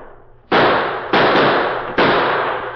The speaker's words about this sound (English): The addition of Kit Carson's musket to the Lone Ranger's well-placed gunfire soon had a telling effect.